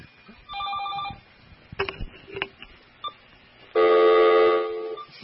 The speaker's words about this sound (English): someone's calling. Oh, sorry. I've had the phone off for such a long time.